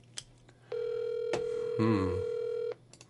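A single ringback tone on an outgoing phone call to an organization: one steady, buzzy, mid-pitched tone lasting about two seconds, with a brief faint voice-like sound over its middle, then quiet.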